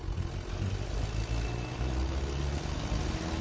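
A car engine runs steadily throughout, a continuous low rumble with a droning hum, even in loudness, with no voices.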